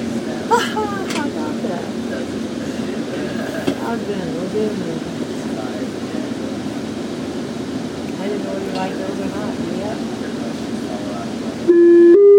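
A steady low rumble inside a moving FrontRunner commuter train in Utah, with people murmuring under it, then a loud two-tone chime sounds near the end as the train pulls into Farmington Station.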